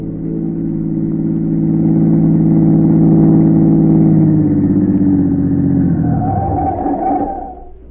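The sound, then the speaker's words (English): A black car with its curtains drawn pulls up to the curb, its engine humming steadily, the low rumble shifting in pitch as the vehicle slows and settles, then fading out near the end. No voices. “A minute or two later, a black car, its curtains drawn, pulled to the curb.”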